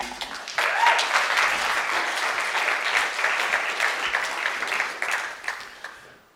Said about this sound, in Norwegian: Så vi kan ge dig en klapp alltså.